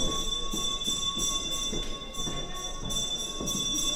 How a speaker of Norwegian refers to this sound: Nå ringer bjellen. Det betyr at nå må ikke folk somle mer i foajeen, men finne plassene sine. For nå starter forestillingen hvert øyeblikk.